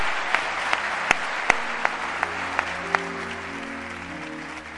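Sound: audience applause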